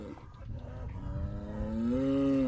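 A single cow lets out a long, deep moo that swells louder toward the end, over a low, rumbling outdoor background with no talking.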